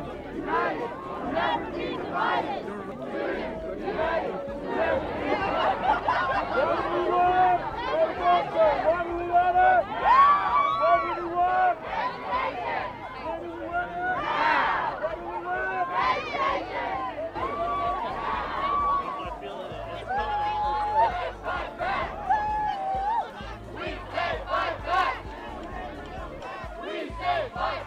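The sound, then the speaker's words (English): A large crowd of community college students chants and shouts in rhythmic bursts over a steady babble of many voices on a protest march to the Capitol building that left at 10 in the morning, with PCC at its head behind a banner. The energy rises and falls as the group moves together, loud throughout. “And indeed, when the march did leave that morning at 10 o'clock, PCC was at the very head of it, right behind that banner.”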